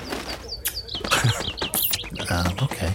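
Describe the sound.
A bird chirps rapidly and repeatedly, with bright, high tweets coming in quick succession, alongside soft fluttering and faint low voices in the background.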